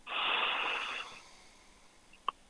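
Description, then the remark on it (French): A long, airy breath drawn in through the nose during a breathing exercise, steady for about a second before fading, followed by quiet and a single faint click. “Donc là, vous allez inspirer par le nez et souffler doucement.”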